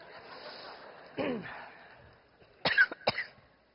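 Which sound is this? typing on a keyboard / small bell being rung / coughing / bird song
coughing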